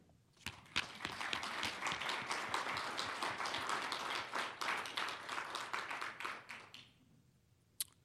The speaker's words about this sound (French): Chers frères et sœurs dans le Seigneur Jésus-Christ et vous tous, chers amis, il est important pour moi de commencer en remerciant les anciens de la communauté chrétienne de Dérive et je tiens à ce que nous les applaudissions.